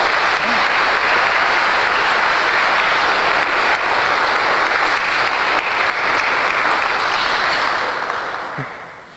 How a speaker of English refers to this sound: Next week at this time, they're going to be making their consecration to the Blessed Virgin Mary. Isn't that beautiful? And applause? Yeah.